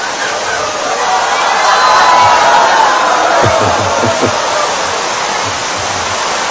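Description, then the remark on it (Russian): Heavy rain pours down in a steady, dense hiss that fills the whole recording, with a few soft low thuds partway through and no voices. “Это дождь из премы, наверное.”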